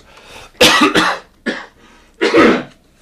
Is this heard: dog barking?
no